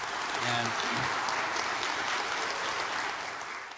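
A crowd claps steadily in a dense, even wash of applause lasting several seconds, with a faint voice briefly audible underneath at the start before the clapping gradually thins.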